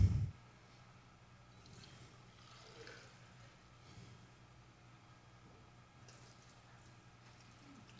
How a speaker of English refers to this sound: to fill the water bottles up